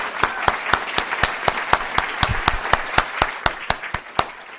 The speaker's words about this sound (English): And I want to give you a round of applause for pulling this together.